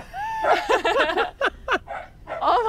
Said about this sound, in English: Just a big old, what are you barking at, buddy? Every time he barks and his butthole puckers.